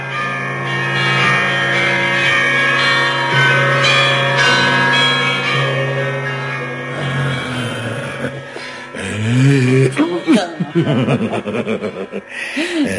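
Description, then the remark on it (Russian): Church bells peal loudly and continuously for several seconds, their ringing tones overlapping, then fade as people burst into chuckling laughter and excited voices. “Всем объяви, чтобы все знали, кричи во весь народ, валяй в колокола, черт побери, уж когда торжество, как торжество.”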